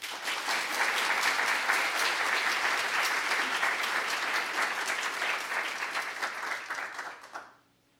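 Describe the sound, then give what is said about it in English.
An audience at a literary reading at the LA Public Library applauds the first reader steadily for several seconds, a dense wash of many hands clapping, holding at an even level before tapering off quickly at the end. “Let's give a round of applause to our first reader,”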